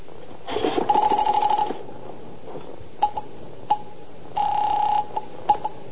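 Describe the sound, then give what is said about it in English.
A telephone is picked up and dialed to call the police, with sharp handset clicks and two separate bursts of a steady ringing tone, fairly loud, with no voices. “I reached for the phone.”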